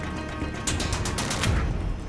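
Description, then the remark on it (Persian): An explosion: a rapid string of sharp, loud blasts cracks out in quick succession for about a second over a low, rumbling background, then fades into a lingering boom-like rumble. “داشتم با روزبهانی صحبت میکردم، یه دفعه صدای انفجار اومد.”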